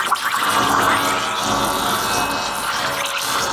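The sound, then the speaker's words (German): The milk frother of an espresso machine called Espressina Macchiata 2000 hums and hisses steadily, with a bubbling, gurgling texture and faint tonal warbles running through the continuous sound. “Außerdem summt ihr Milchschäumer so schöne Lieder.”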